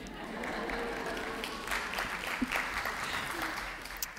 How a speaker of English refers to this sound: You may cheer again.